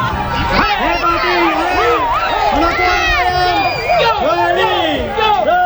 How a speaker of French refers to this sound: il y avait bien sûr le grand rodéo qui a débuté à 13h. Deux rodéo girls et 30 rodéo men ont tenté de tenir plus de 8 secondes sur leur monture, cheval ou taureau, devant une foule déchaînée.